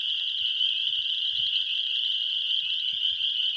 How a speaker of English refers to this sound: We'd heard the friendly calls of spring peepers here plenty of times as well. They're found basically anywhere where there's forest and kind of wetland edges and stuff.